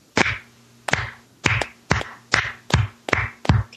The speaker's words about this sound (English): I have to clap now. Because that was beautiful.